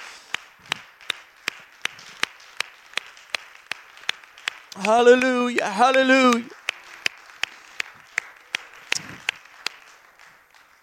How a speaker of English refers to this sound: Why don't you clap your hands to the Lord? He's worthy of praise.